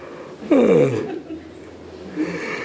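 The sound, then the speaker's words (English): A single muffled yawn through a covered mouth, a breathy intake sliding down into a falling, voiced sigh, over quiet background tone. “You know, if you're going to yawn, at least, yeah.”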